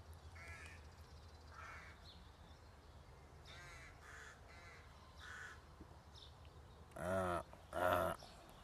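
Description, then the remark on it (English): Crows cawing in a series of harsh, raspy calls, several softer ones early on, then two loud, drawn-out caws near the end over a low steady background rumble, heard from a park bench facing a road, within sight of Ripon Cathedral. “Do we need crows?”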